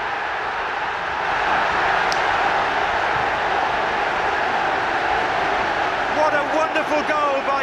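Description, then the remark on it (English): A huge crowd at Wembley roars and cheers after a goal by Gascoigne, a dense, sustained wall of noise that swells after the first second and holds steady, with a few individual voices rising out of it near the end. “And B, you can hear the crowd. A real crowd at Wembley.”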